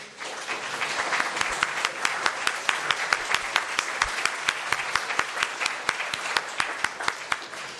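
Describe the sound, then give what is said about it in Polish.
Sustained applause from an audience for the actors, dense overlapping claps with a few sharper, louder claps standing out, steady in volume throughout, with faint voices mixed underneath. “Chodźcie jeszcze, żebyśmy wam mogli brawa zabić.”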